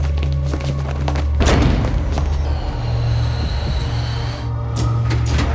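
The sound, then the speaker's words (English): A heavy door swings shut with a single deep, booming thud, followed by rattling and clanking over a steady low hum that continues afterward. “As the door closed”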